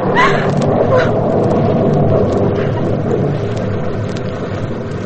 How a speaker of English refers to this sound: And a few miles away in the bus that makes its way slowly down the highway, two men, victims of the explosion, two men lie on improvised stretchers, wooden planks laid across the backs of the seats.